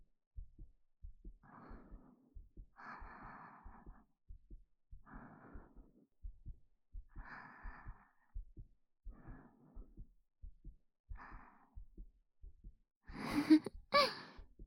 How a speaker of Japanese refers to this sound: でも、この方がよく聞こえるかなって思って。どうかな？聞こえる？私の心臓の音。ドクン、ドクンって。